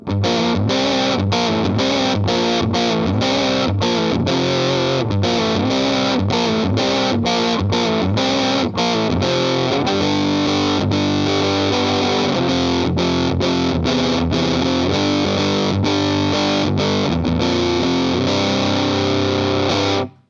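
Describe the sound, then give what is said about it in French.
An electric guitar played through a distortion pedal with the distortion knob turned all the way up, heavy gritty distortion on loud bluesy riffs and sustained chords, broken by brief rhythmic pauses, with no voices. “Alors, on entend quelque chose de très rocailleux, relativement idéal pour un gros blues en micro-manche, par exemple.”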